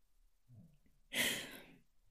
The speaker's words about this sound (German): Hört ihr im Hintergrund meinen kleinen Hund schnarchen?